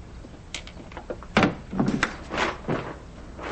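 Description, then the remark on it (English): A door slams shut with one sharp, solid bang, followed by several softer rustling and scraping sounds as it is eased slowly open again, with no one speaking. “Craig slams the door and opens it again slowly.”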